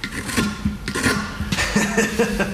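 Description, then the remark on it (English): An oddly shaped knife, a reverse bent knife, shaves a block of wood into the shape of a dorsal fin at a National Guard Armory, in a steady series of short, scraping, rasping strokes, some sharper and louder than others, with no one speaking. “He's slowly shaving a block of wood into the shape of a dorsal fin with an oddly shaped knife.”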